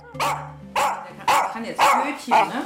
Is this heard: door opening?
no